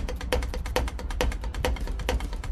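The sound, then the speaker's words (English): A bus driver's spare drumsticks tap a quick, steady train beat on the steering wheel of a King County Metro bus, crisp clicks repeating in a chugging rhythm over a low engine rumble, with no one talking. “He whips them out and plays a rockabilly beat on the steering wheel of the King County Metro bus he's driving today.”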